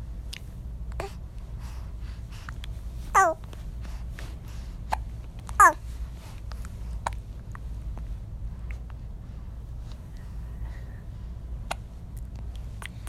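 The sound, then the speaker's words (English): A baby hiccups twice, small sharp hitches about two seconds apart, with faint soft clicks and background hum in between and no talking. “You got the hiccups now, huh?”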